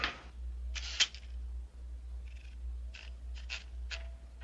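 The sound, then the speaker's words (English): A typewriter clacks in a few irregular, spaced-out keystrokes late at night as someone works on a screenplay, over a steady low hum, with no one speaking. “That sounds like a typewriter.”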